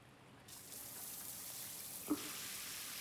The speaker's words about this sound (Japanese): これで汚れを浮かせました。あとはシャワーで丁寧に流していくだけです。 シャワーの間も目を閉じて、スイカにすべてをお任せください。